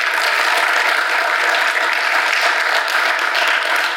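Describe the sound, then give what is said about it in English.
A crowd applauds steadily for three men from Ponders Gospel Church and Fireside Fellowship who are introduced before sharing their stories: a dense, even wash of many hands clapping at a constant loud level for several seconds, with no voices standing out. “Let's give these gentlemen a round of applause.”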